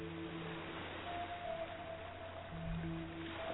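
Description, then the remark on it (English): A steady, soft wash of ocean waves rolls on continuously, blended with low sustained musical tones; no one speaks. “Focus on the waves, on the music, and my voice.”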